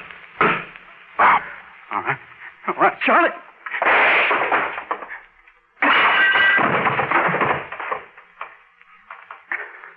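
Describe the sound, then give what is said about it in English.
A loud gunshot bursts out suddenly and rings for a moment as a man is shot in the back of the head, set among a scattering of short knocks and thumps, with voices speaking nearby. “You shot the back of Jesse's head off, Bob.”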